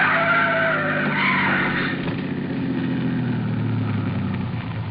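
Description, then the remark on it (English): Car tires screech loudly in a long, wavering skid for a couple of seconds as Van Hook's car tries to squeeze between the trailer in front of him and an oncoming truck, giving way to a heavy rumbling engine roar that continues to the end. “The trailer in front of him. And the oncoming truck.”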